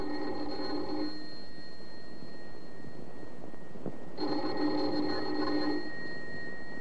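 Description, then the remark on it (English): A doorbell rings twice, each a sustained buzzing ring lasting over a second, separated by a few seconds of quiet. It sounds clear, with no voices. “Let's begin this tale with the ringing of a doorbell.”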